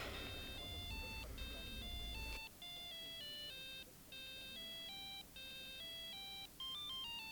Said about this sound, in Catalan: Que t'has canviat el timbre del mòbil